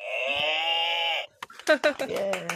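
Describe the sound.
A cow moo buzzer sound effect plays once, a loud, steady, buzzy moo lasting just over a second, then voices break in right after it.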